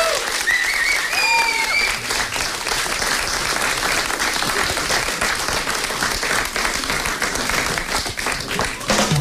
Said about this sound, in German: Großen Applaus nochmal für alle Künstler.